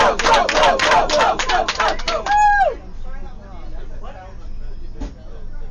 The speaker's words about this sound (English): The bus engine just started up.